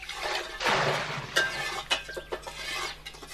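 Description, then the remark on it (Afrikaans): In a garden, a large amount of water pours into a pot holding old herbs and other odds and ends in a short, bright splashing rush, followed by several sharp clinks and knocks of the pot, with no one speaking. “Terug in die tuin gooi hulle dit ook in die pot en voeg 'n hele klomp water by.”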